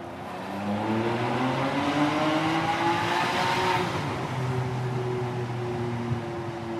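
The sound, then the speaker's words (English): A car engine revs hard as it accelerates while being driven, its harmonic tone climbing and holding steady, loud, with a rough roar underneath and no talking. “I love that sound. This car is make all your rock and roll fantasies come true.”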